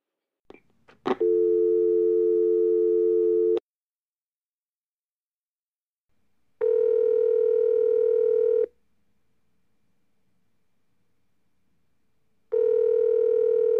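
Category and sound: signal or alarm, phone call ringing tone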